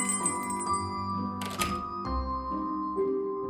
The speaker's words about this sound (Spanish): Al entrar en la tienda, pudo escuchar una pequeña campana colocada en la parte superior de la puerta.